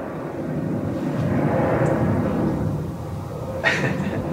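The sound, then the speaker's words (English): A plane's jet engine roars steadily overhead near an airport, a broad low rumble that swells slightly and then fades, with a brief brighter hiss near the end. “funny thing that we didn't think about, getting a hotel near the airport and recording a sound interview, is going to be planes.”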